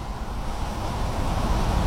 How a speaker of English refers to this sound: the slight difference in the sort of tone of the rustling of the leaves in the trees. That's dry leaves rustling, that. Tugging at the branches.